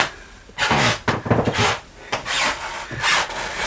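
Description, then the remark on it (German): Wooden floorboards creak and groan under slow footsteps, a series of drawn-out, rasping squeaks rising and fading in uneven bursts, with no talking. “Eben hat es mehr geknarrt. Da kommt doch an, wo du lang gehst.”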